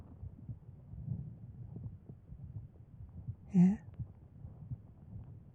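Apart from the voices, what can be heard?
heartbeat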